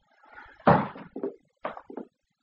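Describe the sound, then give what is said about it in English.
A door being closed: one heavy, full-bodied thud, then a few softer knocks and rattles as it settles. Nobody speaks. “You'd better close the door if you don't want the neighbours to hear.”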